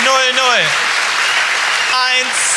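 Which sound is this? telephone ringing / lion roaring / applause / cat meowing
applause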